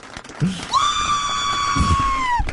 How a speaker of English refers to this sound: There's two screams. There he goes.